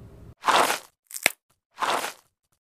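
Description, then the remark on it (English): Three crunching footsteps on loose gravel as someone slowly pulls themselves out of a field onto a road, slow and evenly spaced, with a sharper click in the middle step and a faint low rumble at the start. “Behind us, grass rustled, followed by the crunch of loose gravel underfoot, like someone was pulling themselves slowly out of the field and onto the road.”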